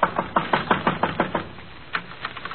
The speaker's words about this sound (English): At one end is a small wooden shed big enough for half a dozen garbage cans with a cheap padlock on the outside. Just in a hunch, I go over to the shed and knock. Anybody home?